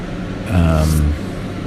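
A steady, low mechanical hum from an apartment air conditioner fills the background throughout, with a brief louder, tonal droning surge lasting about half a second in the middle before settling back to the constant whir.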